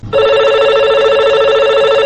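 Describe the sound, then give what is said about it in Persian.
A telephone rings for a listener's call-in to the program Sorood wa Sokhan on Radio Azadi. The steady, bright electronic tone starts abruptly after a brief low rumble and holds loud and unbroken for about two seconds, with no voices. “دوست عزیز، قسمی که در شروع برنامه براتون گفتم که تماس های تلفنی از روز قبل باقی مانده که او تماس های تلفنی را با آهنگ های فرمایشیتان براتون نشر میکنیم.”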